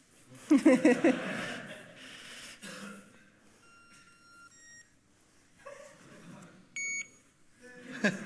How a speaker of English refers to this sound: Yeah, that's what HID calls beep and blink, what they particularly love. Easy installation, you just put up the reader and it will beep and blink if any of the cards that HID sells is put in front of it.